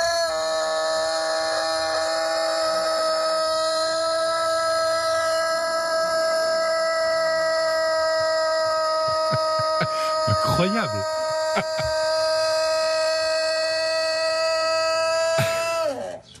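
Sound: rooster crowing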